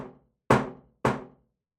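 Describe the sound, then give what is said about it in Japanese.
A friend gives two firm knocks on a hotel room door, evenly spaced about half a second apart, each with a short resonant decay, following the fading tail of an earlier knock. No voices. “と思ったんですけど、ノックされてしまいましたね。”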